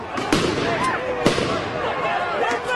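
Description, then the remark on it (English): Police fire flashbang grenades into a crowd of anti-racist protesters in Portland, Oregon, on a Saturday: a series of sharp, cracking bangs at irregular intervals, with a steady murmur of crowd noise and scattered voices underneath. “The police are firing tons of flashbangs into the crowd.”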